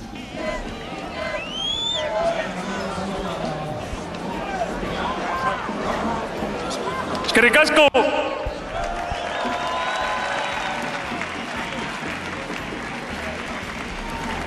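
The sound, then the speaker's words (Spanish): A large crowd in Alderdi Eder square cheers and claps steadily at a historic celebration, the first in 38 years, during Aritz Elustondo's presentation of the players: a dense roar of voices with shouts rising above it and a brief louder burst midway; someone calls out over the noise. “Así suena, escucha, la plaza de Alderdi Eder en directo con esa presentación de Aritz Elustondo con los jugadores.”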